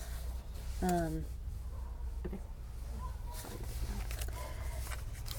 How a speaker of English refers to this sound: I can hear the paper rustling. Does that matter? His paper?